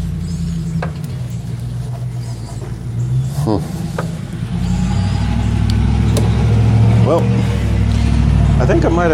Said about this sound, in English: Boy, that's a noisy truck right there.